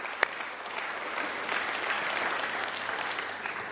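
An audience applauds steadily for several seconds, a dense wash of many hands clapping at an even, moderate volume, opening with one sharp louder clap before the rest fill in.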